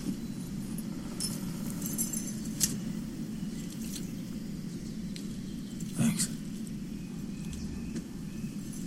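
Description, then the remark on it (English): A few small metallic jingles and clinks of a set of truck keys being handed over, scattered over several seconds above a steady low background rumble, not loud. “If you are looking for your truck, it's up that way, just beyond the trees. You might need these, though.”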